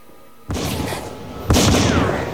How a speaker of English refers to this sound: Meanwhile, the Major fires a shot towards Dahlia.